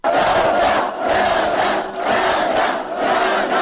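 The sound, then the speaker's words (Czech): A large protest crowd at the 'Pravda za Davida' rally on Krajina Square in Banja Luka chants 'Pravda' (justice) in unison, loud and sustained, with rhythmic swells repeating roughly every second and a half and brief dips between phrases. “Pravda je riječ koja se juče najčešće mogla čuti na centralnom banjaluškom trgu.”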